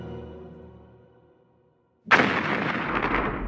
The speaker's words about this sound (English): A great boom sounded through the connection.